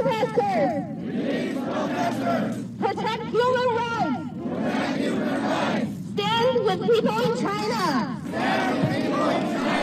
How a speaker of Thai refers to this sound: มีรายงานผู้ประท้วงหลายร้อยคนปักหลักหน้าสถานกงสุลจีนในนิวยอร์กนะครับพร้อมชูกระดาษขาวซึ่งเป็นสัญลักษณ์การประท้วงรัฐบาลจีน มีตะโกนเป็นภาษาจีนกลางด้วยนะครับ